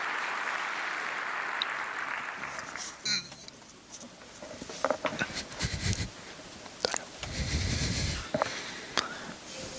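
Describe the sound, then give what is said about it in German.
Applause comes in as a dense, hissy wash of clapping, thinning out midway into scattered sharper claps and rustling bursts of varying loudness. “Also einen großen Applaus für kleines Filmröllchen, bitte.”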